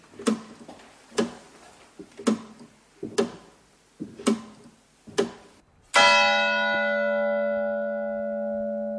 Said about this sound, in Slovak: Jeden z katedrálnych zvonov odbil štvrť, v tejto veži sa nachádzajú dva, alebo teda na tomto poschodí, neviem, koľko je tu dokopy zvonov. Na tomto sú dva zvony, jeden odbíja štvrť hodiny a ten druhý tú príslušnú hodinu.